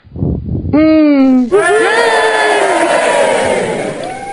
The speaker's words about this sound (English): Yay! Okay, I need you all to cheer with me. Yay! This is a group participation.